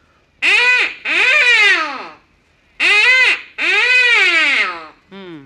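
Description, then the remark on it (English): A duck call blows a comeback call, used to bring back ducks that have already passed overhead: loud, nasal, buzzy quacks in two pairs, a short note then a long drawn-out one each time, ending with a brief clipped note. “This one here is the comeback call. That's for when the ducks have already passed by overhead and you want to get them back, you see.”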